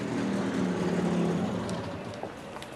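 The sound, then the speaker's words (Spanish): A motorcycle engine rumbles at a low, steady pitch, then winds down and fades as it comes to a stop in front of the Santarella restaurant, leaving a quieter idle with a few faint clicks. “Una moto se detiene frente al restaurante Santarella.”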